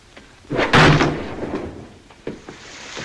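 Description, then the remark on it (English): A guard's chair tips over backwards and crashes onto the floor with one loud, heavy thud, followed by a few smaller knocks and clatters as it settles. No voices. “His chair collapses backwards, and he ends up with his legs in the air.”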